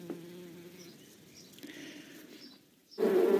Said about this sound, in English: The bees fly back to the beehive and they make a loud buzzing sound as they fly.